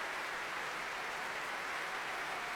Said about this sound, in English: Daniel Barenboim stands there behind the second violins, the violas, to let the orchestra take the applause here.